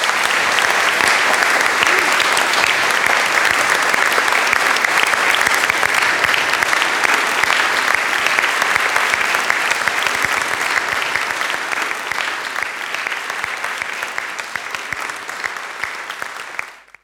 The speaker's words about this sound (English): While they're standing, could we give a round of applause for the mentors?